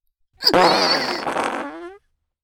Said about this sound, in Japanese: はーい、私も行くっすよ。あー、やっぱおならは思いっきしかますに限るっすね。